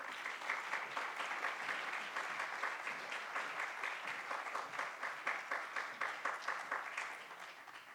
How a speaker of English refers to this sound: If you all could do me a favor and join me again in another round of applause